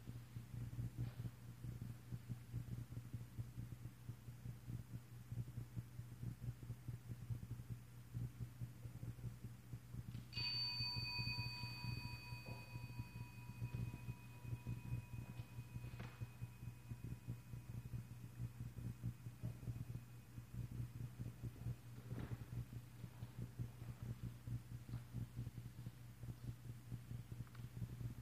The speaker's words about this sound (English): The moment I'll hear the bell again, and just like before, just try to listen for the bell until you just cannot hear you, or try to catch that moment, the sound is no longer there.